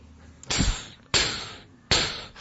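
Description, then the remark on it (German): Three heavy, booming knocks at midnight on the door of a Kazi, slow and evenly spaced, each striking sharply and then ringing out briefly before the next. Nobody speaks. “Wer wagt es, an meine Türen zu klopfen um die Mitternachtszeit?”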